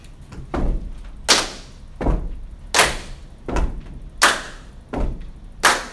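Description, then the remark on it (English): A steady stomp-clap rhythm: deep, thudding foot stomps alternate with sharp, bright hand claps, about four of each, repeating evenly with no voices. “All right, so stomp clap. Here we go.”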